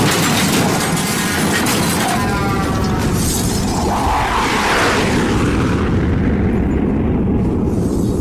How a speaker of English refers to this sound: Oh, and check out this transition. of a car crash, a fighter jet, like like that, and a tugboat going, ooh, ooh.